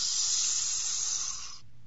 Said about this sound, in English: The last words Ragear ever heard on this earth were uttered in the adder's sibilant hiss. "Asmodeus! Asmodeus!"